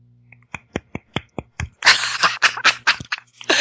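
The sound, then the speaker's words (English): A handful of sharp, evenly spaced claps quickly build into a denser, louder burst of clapping that carries on to the end, over a faint low hum. “No, that was applause.”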